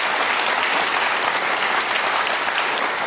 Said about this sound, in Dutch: Dames en heren, even een applaus voor Lex Kersenmarks, scheidend commercial officer bij Volvo Cars in Zweden.